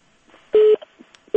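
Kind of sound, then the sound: signal or alarm, phone call disconnect tone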